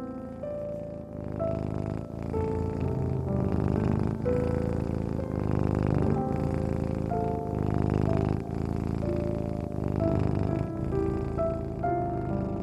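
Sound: cat purring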